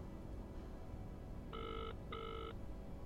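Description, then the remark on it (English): A telephone rings on the line in two short, evenly spaced bursts, each a bright buzzing tone with a steady pitch, heard over a constant low hiss with no one speaking, while a call is placed to a zoology professor. “I'm going to call my zoology professor and see if he got the email I sent about the armadillo.”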